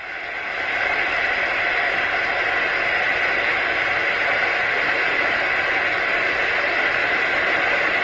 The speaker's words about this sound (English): So we're going to wait for this to boil. And it's boiling quite nicely here. It just sounds like an average kettle boiling, really.